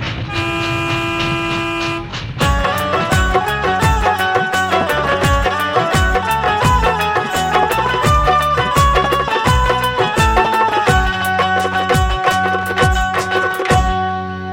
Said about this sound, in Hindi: अभी अभी बंबई कुर्ला लोकमान्य तिलक टर्मिनल से आने वाली गाड़ी स्टेशन पे पहुंची है।